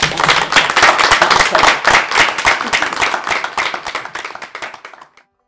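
An audience breaks into steady, loud applause for a speaker, thanking her for her talk and for sharing her expertise, many hands clapping in a dense, crackling patter that holds for several seconds, then thins out and fades to silence near the end.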